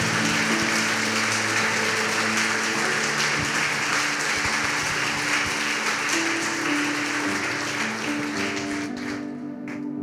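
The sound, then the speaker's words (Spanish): An audience applauds God steadily, a dense wash of many hands clapping at an even loudness, with faint sustained tones underneath, tapering slightly at the very end. “Le damos un aplauso a Dios por su vida.”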